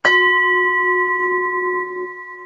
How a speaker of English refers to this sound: Let's ring our gong and see if we have any inspiration.